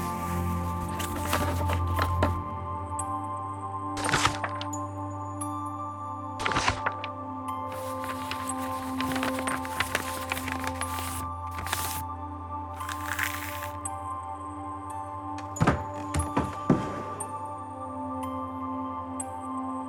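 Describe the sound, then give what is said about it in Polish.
Wooden floorboards creak in the silence of the night, sudden and growing, giving a few dull, muffled cracks at irregular intervals, some short and sharp, others drawn out, over a steady low hum in the background. “Senne marzenia o dzieciństwie przerywa nagły i narastający dźwięk skrzypiącej podłogi. Głuchy i stłumiony trzask drewnianych desek niczym krzyk dziecka przenika melodyjną ciszę nocy.”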